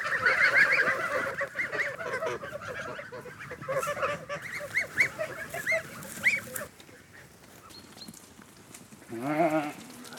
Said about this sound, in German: Gänse werden von der Weide geholt.